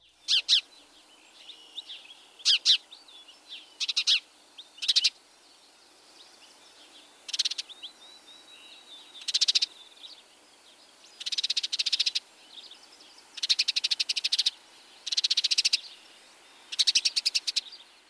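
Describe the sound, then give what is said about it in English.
A house sparrow gives sharp, repeated chirps, then bursts into rapid, buzzy scolding chatter in several loud runs, with no voices over it. “Also note the scolding chatter.”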